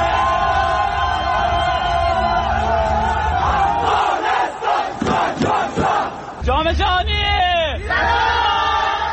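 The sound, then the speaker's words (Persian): A large crowd in Afghanistan cheers and shouts continuously to welcome the Afghanistan national futsal team after it qualified for the World Cup, with dense overlapping voices, rising yells and whistling-like whoops toward the end, loud throughout with no single speaker standing out. “در ادامه میشنوید که رایابی تیم ملی فوتسال افغانستان به جام جهانی با استقبال گرم مردم در ولایت های مختلف روبرو شده.”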